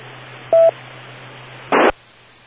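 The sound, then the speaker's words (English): A single short electronic beep on an amateur radio TechNet check-in sounds over a steady, band-limited radio hiss with a low hum, followed a second later by a brief loud burst of crackling static, then the hiss resumes. “Give me your call letters and name right now, after the beeps.”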